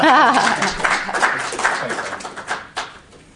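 A crowd applauds with a dense, steady patter of many hands clapping, a brief voice rising over it at the start, before the clapping thins and fades out.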